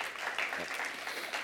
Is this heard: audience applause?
yes